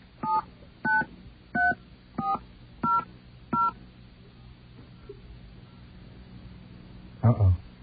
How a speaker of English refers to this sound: Okay, we're going to enter our phone number here. Maybe it won't know if it's a payphone or not.